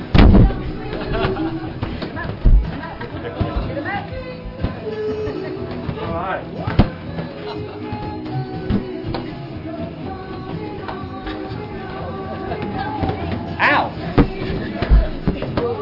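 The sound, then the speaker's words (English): Several sharp, loud pops of balloons being popped burst out at irregular intervals over a continuous murmur of people talking, each one a sudden crack that fades quickly back into the chatter. “Oh, these are pretty healthy balloons.”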